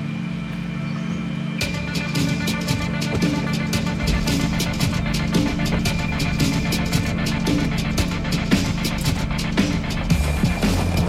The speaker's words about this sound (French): Nous montons maintenant au hameau de Bionnet, le premier touché lors de la catastrophe de 1892, en voiture avec le maire de Saint-Gervais, Jean-Marc Pélex.